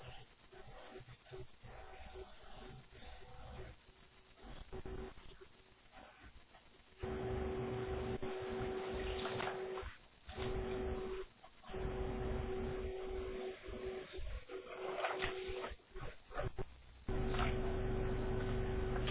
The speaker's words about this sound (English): Okay, everyone hear that? Because the elephant is so amazing, that's why it's called pill.